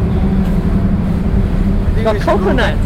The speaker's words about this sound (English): Go back up now. Oh, do we need to go up? Because the traffic is coming, okay, we have to rush up.